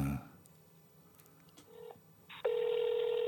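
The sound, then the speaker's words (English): A brief voice at the start, then a short electronic beep and a loud, steady phone tone that begins abruptly and holds, like a call to a phone abroad being dialed and connecting to a ringing tone. “That's an abroad phone.”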